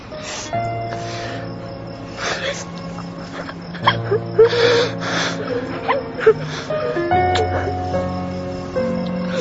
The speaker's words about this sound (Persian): اینقدر گریه نمی کنه، خجالت بکش.